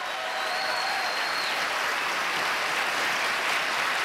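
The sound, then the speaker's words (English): Sustained applause from a large debate audience following a remark about Trump, a dense steady wash of clapping that stays loud and even for the whole stretch, with no voices standing out above it. “It was a real zinger, and after that big applause, we heard Trump respond.”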